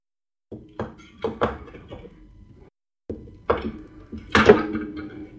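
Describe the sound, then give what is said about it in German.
Hard plastic clicks and thunks clatter in uneven bursts as a Raspberry Pi is handled, about 2 meters from the microphone, with a brief pause midway and a louder clack near the end; no one speaks. “Okay, wer nimmt am Hintergrund eine Knarre auseinander? Niemand. Ist keine Knarre. Was dann? Ein Raspberry Pi, der nicht so will wie ich will.”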